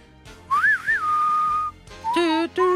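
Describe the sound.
A person whistles a short western film theme melody, with rising and falling swoops, a long held note, then two brighter, wavering phrases after a brief pause.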